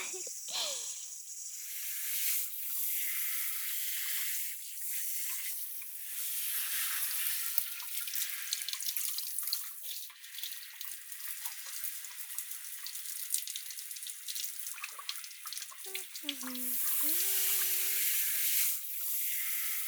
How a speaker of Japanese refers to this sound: それじゃあシャワーかけますよ。